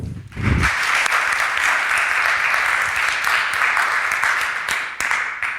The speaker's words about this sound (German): Vielen Dank und bitte einmal klatschen.